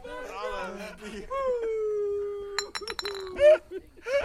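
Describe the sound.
A quick cluster of bright, ringing clinks of empty glass bottles knocking together, set among long, wavering whine-like vocal tones and some voice sounds.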